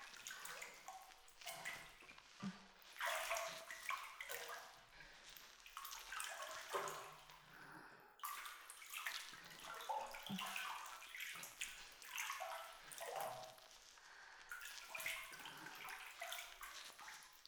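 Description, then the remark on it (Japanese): Bathwater runs and churns for the whole stretch, a steady rushing with uneven splashy surges, as it is whipped up to make plenty of foam for a bath; no voices. “泡いっぱいあった方が気持ちいいから。”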